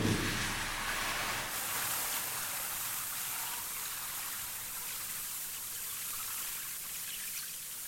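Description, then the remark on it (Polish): Pancake-like batter is poured crosswise onto the heating plate of a machine, the rest poured into the middle, giving a steady sizzling hiss that starts with a brief low splash and continues evenly throughout, with no voices. “Ciasto nalewam na krzyż, resztę ciasta wylewam na środek, tak aby ciasto przy zamknięciu maszyny równomiernie rozlało się po całym blacie płyty grzewczej i żeby było jak najmniej odpadów po bokach.”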